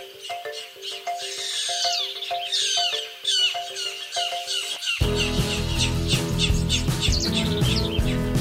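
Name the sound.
birdsong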